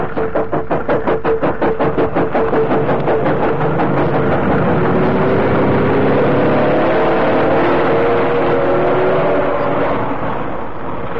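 A heavy lorry engine, one of a couple of lorries waiting on a road beside an embankment and loaded with cartons of cigarettes, chugs in a steady pulsing rhythm, then revs and pulls away, its pitch climbing through the gears as it drives off. Loud, with no voices.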